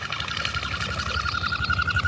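Whistling wingbeats of a common goldeneye: a steady, high, rhythmic whine that pulses rapidly with each wing stroke, continuous and moderately loud, with no voices.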